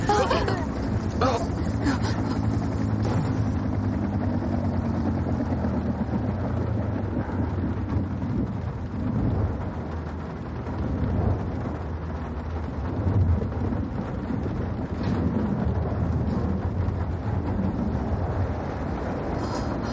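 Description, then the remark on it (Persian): A helicopter going down over a lake in stormy weather after its main engines shut off and control is lost: a loud, continuous roaring rumble with heavy low-end turbulence and rattling, sustained throughout, with muffled voices faintly mixed underneath. “موتورهای اصلی خاموش شدن، کنترل ندارن. هلیکوپتر داره سقوط میکنه.”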